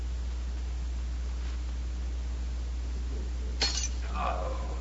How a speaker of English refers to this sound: That's the second wine glass Valcour has dropped in an hour.